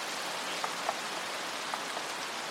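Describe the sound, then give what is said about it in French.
Steady rain hisses across a broad wash of noise, with a few distinct drops pattering on a surface now and then. No voices, just the continuous downpour at a moderate, even level. “Donc, c'est un épisode consacré à la pluie, qui évoque souvent la mélancolie dans le cinéma.”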